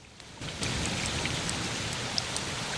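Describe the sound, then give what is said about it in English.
Water trickles steadily beneath rocks on a mountainside, a continuous hissing wash with faint scattered drips, growing slightly fuller after a moment, with no voices. “He lowers his head into the depression he's dug and listens to the water.”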